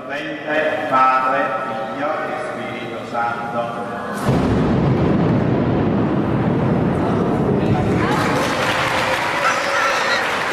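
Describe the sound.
Voices give way to a sudden, close thunderclap from lightning striking nearby at the end of a final prayer. It cracks loudly and rolls on as a heavy rumble, then the audience breaks into sustained applause over the fading roar.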